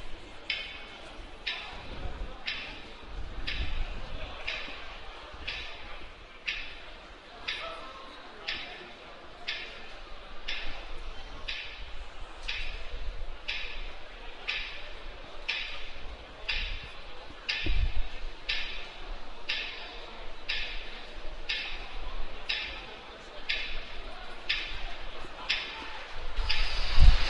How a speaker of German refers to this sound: So, die Fahnenkids gehen jetzt vom Feld, die Uhr tickt.